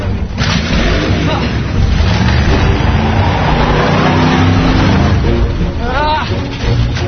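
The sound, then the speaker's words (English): A powerful Camaro car engine rumbles loudly, revving up with rising pitch near the end, while muffled voices are faintly mixed in beneath the steady low roar. “Satan's Camaro in my yard. It's stalking me!”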